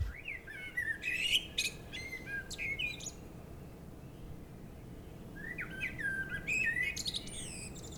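A blackbird sings in two fluting, warbling phrases with a pause between, rich whistled notes ending in thin twittering, heard outdoors over a steady low background rumble.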